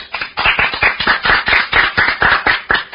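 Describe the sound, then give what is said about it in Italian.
Harsh, distorted applause closes a radio broadcast for a birthday, filling the whole stretch: a dense crackling run of loud clap-like bursts with a clipped, gritty edge and no voices. “Applauso in distorsione, e grazie.”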